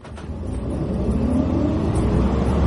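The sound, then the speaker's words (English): A heavy number 37 bus engine rumbles low and steady, its drone building slightly as the bus pulls away, with no one speaking over it. “I make my getaway, fling myself upon a number 37 bus, which promptly sits in a traffic jam for 10 minutes.”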